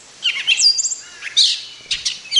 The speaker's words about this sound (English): Is what a gray catbird actually sounds like.